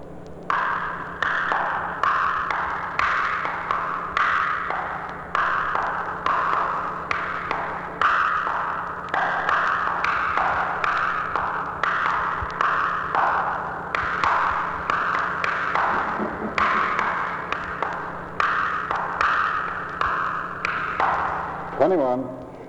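A group playing ping pong: light, sharp ball clicks bounce back and forth in a quick, steady rally rhythm for over twenty seconds, over a faint constant low hum.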